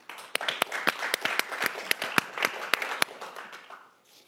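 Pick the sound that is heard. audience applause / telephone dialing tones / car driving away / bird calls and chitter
audience applause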